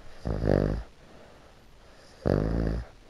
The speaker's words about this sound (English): And then have a listen to this, because my pug, Jemima, also snores super loudly.